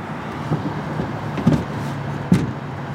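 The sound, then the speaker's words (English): Over a steady low engine hum, a man climbs into the back seat of a car: a soft shuffle, then two dull thumps about a second apart, the second sounding like a door shutting. No one speaks. “Now he's getting in the car.”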